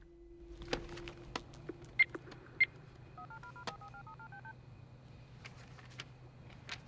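In an office, a few scattered clicks and thumps as a file is dropped on a desk and a phone picked up, then a quick run of about seven or eight telephone keypad tones, short even beeps dialed in steady succession, over a low hum.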